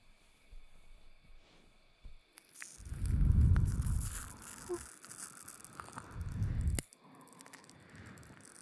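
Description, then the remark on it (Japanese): Soft, wet squishing of foamy lather being applied and worked in, two longer bursts of moist crackling and smearing with quieter rustling between, no voices. “では泡をつけていきますね。”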